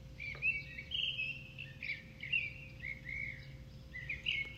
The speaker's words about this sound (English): Returned to bird sounds and rustling grass. The morning quiet nurtures my soul.